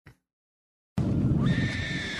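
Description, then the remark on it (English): After a short pause, a gorilla lets out a loud, harsh call that rises into a shrill, strained cry and holds steady for over a second, with no one talking. “I'm gonna guess gorilla. Correct.”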